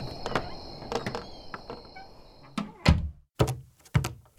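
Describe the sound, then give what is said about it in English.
Rattling clicks and a faint high whine give way to three heavy thuds of an unlocked cabin door in quick succession, each landing solidly with brief silence between them. “Doesn't seem like anyone's home. The door is unlocked, though.”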